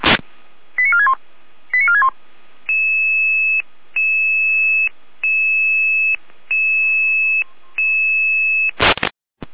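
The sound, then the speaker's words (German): Emergency dispatch radio alerting tones: after a burst of static, two quick chirping tone sequences give way to about seven steady, evenly spaced beeps, ending in another static crackle. No one speaks. “Jeno mit Alarmierung.”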